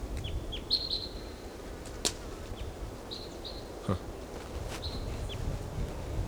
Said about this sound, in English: Okay, there's another bird, maybe the same bird, but we don't know, singing in the top of this tree.